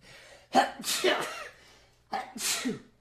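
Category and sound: human body sound, sneeze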